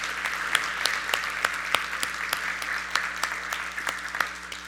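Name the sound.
audience applauding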